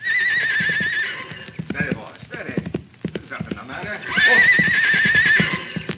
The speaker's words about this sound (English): Hey, here he comes. I get down and out of sight. Let the horse get a little bit past so he won't rear up. Now keep quiet.